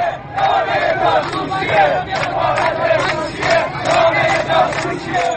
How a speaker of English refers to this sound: Scores of opposition demonstrators, many of them young people, also chanted death to Russia and death to China because of their support for Iran's government instead of the usual pro-government slogan of death to America.